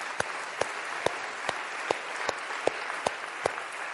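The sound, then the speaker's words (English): An audience in a church applauds a guest as she is introduced, clapping steadily for four seconds, a dense crackle of many hands with sharper, louder claps standing out at a regular pulse about twice a second. No one speaks over it. “Let's give her a rapturous round of applause.”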